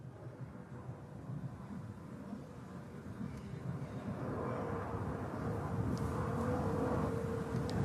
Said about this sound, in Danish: Flyene flyver meget lavt over Tingbjerg. Ja, det gør de. Men det har de nu altid gjort.